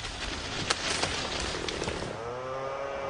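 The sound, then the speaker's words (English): In a forest, a large tree cut through by a man with a chainsaw crashes down past younger trees with a rush of snapping, cracking branches as leaves and debris rain down, then the chainsaw's droning engine whine rises out of the settling noise. “In a forest, a man guides a chainsaw through a large tree trunk, then steps away as it falls past younger trees.”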